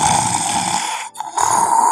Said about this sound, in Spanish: Yo tenía sobrepeso y empezaba a roncar como un animal. Uy, ¿como un animal? Sí, como un cerdo. Yo creo, era espantoso. Sonido de ronquido.